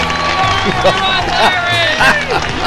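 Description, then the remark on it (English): A large crowd roars and cheers steadily, with many voices shouting over scattered clapping, loud throughout the short stretch. “Buried in those cheers and applause, I think not.”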